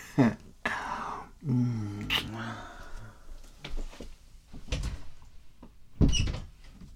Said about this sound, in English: Okay, I get the door.